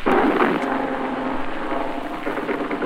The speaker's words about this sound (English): Our own ship has just gave its warning whistle, and now the flak is coming up in the sky.